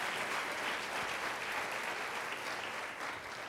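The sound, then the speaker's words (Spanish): An audience applauds the "King of Kings" (God) steadily, a dense wash of many hands clapping at an even loudness throughout, with no voices rising above it. “Aplaudo al Rey de Reyes, señores, señores.”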